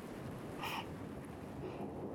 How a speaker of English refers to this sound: Because, you hear that? It's a big storm.